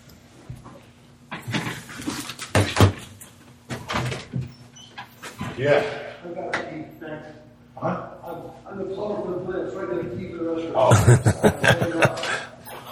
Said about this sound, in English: I think someone's knocking on the door.